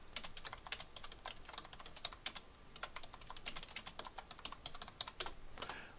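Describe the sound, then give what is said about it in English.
Steady computer keyboard typing, rapid irregular clicks and taps, continuing for several seconds with brief pauses and no voices. “You also might want to make this a little bigger so you can see what I'm typing.”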